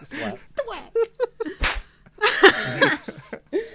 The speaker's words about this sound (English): All of them are romantic on here, and then there's one that says face slap. Yeah, I was going to say the thwack one caught me off guard.